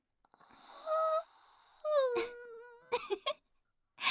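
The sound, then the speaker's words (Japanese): Two drawn-out voiced yawns follow one another, the second one caught from the first: first a sustained moaning tone, then a longer sigh sliding downward in pitch, followed by a few short breathy vocal bursts. “あくびが映った。”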